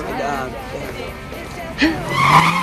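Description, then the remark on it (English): A car's engine revs up sharply and its tires squeal as it speeds away, the roar building loudly over a background of faint voices and crowd murmur. “races off in his car”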